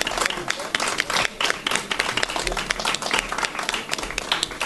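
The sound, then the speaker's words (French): A small audience at a book round table applauds warmly to encourage an author, dense overlapping claps continuing steadily for several seconds at an even level. “qu'on encourage par quelques applaudissements nourris.”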